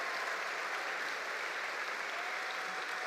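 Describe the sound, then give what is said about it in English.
An audience at a live event hosted by KUNC applauds the musical act that will play the show out, in a steady, dense wash of clapping that holds at an even volume throughout, with no pauses or voices rising above it. “And let's give one last round of applause”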